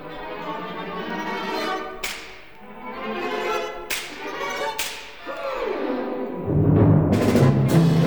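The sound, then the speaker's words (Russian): Several sharp slapstick whip cracks snap out over a full orchestra, each a sudden bright crack; near the end the whole percussion section joins with heavy, booming hits. “Перед тем, как зазвучит вся группа ударных, ты услышишь звук бича.”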